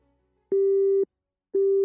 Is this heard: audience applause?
no